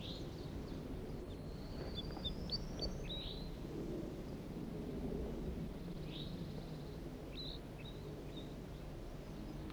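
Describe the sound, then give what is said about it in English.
Scattered high chirps and short whistled calls from a wild bird flock of five males and one gray bird, coming in loose bursts over a steady low rumble of wind-like noise; no one speaks. “recording a wild flock.”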